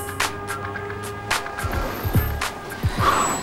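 A car drives over a bridge in sparkling sunshine in New York City with a steady engine rumble, punctuated by a series of short thumps and clatters as the tyres roll over bumps in the road. No one speaks.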